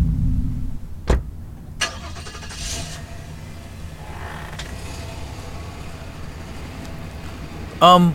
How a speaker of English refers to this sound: Who was that? You don't know anyone who drives an old... What was that, a Datsun?